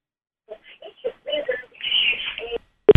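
A quick run of short electronic tones in shifting pitches as Sergey Dorenko dials the phone number of the wife of Danila Veselov, who was arrested in an attempted murder case, followed by a sharp click at the end.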